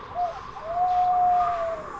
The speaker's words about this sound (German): Ein Käuzchen ruft.